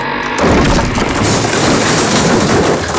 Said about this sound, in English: Below, the bridge plummeted into the street in a shattered heap.